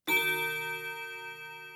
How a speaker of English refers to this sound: As we practice the vocabulary, I will include excerpts from the dialogue. You will hear this chime before each excerpt.